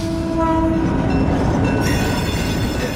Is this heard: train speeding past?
yes